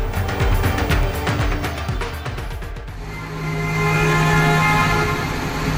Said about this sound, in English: Emergency crews there, the sound of them in high water trucks and airboats maneuvering through neighborhoods in Houston to rescue desperate people there this week.